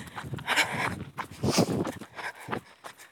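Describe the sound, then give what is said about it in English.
A female husky's claws clicking against hard ground during a run, in a steady, irregular patter of sharp little taps, moderately loud, with no voices over them. “The clicking beside me is my dog.”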